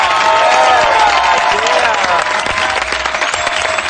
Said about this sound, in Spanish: ¡Un aplauso para Arturo Valls!